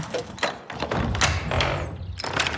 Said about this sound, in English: So we've just closed the front door and put the sign out saying, sorry, no more availability to the house today because it's just gone 4.